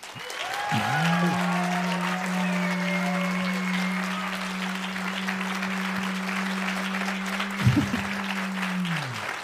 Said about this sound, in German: Und jetzt euer Applaus für den dänischen Fastfood-Bong.